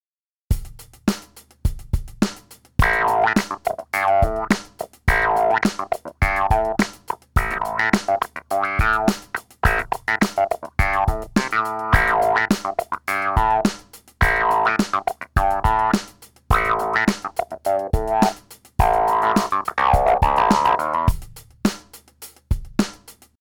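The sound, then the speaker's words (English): A funky riff from a clavinet clone, played through its wah effect with gritty distortion from its preamp, plays alone, with short, percussive plucked notes in a steady choppy rhythm and bright, nasal sweeps. “Now that we've heard the clavinet clone and its wah effect, let's add some distortion using the preamp. This will dirty up the tone.”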